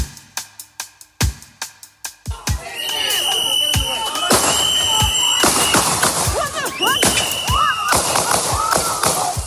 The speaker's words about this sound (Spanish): Estremecedor, ni uno, ni dos, ni tres. Fueron hasta 10 los disparos